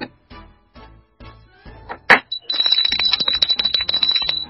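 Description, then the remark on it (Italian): A series of knocks on a door, about six evenly spaced raps, ending in one loud thump, followed by a busy stretch with a steady high ringing tone. “Signore, sentite che bussano la porta.”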